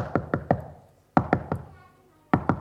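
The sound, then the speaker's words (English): Three rounds of firm knocking on a door, each a quick set of three solid raps separated by short pauses, fairly loud with no voices. “As he woke up the next day, he heard another knock on the door.”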